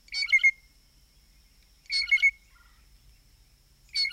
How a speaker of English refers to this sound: And as familiar as the typical call might be, these birds are immensely creative vocalists with a large vocabulary of other calls, including piping notes.